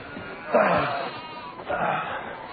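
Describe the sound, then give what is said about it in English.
Two bleats from a sheep, the first starting around half a second in and the second shortly after, fairly loud with a wavering, nasal quality over light background noise. “Getting it to lick Owen was an absolute nightmare, and it almost took 2 days to get that sheep to lick him.”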